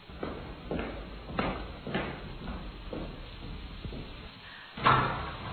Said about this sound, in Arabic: اسمحي لي، سأذهب أنا وأفتح الباب. اذهب.